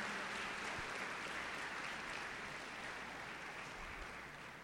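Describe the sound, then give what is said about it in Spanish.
An audience gives a strong round of applause to the Lord, a dense, continuous wash of many hands clapping that holds at an even level and eases off slightly toward the end. No voices are heard. “Hermanos, vamos a dar un aplauso bien fuerte al Señor, porque sabemos que aquí hay muchas hermanas trabajadoras.”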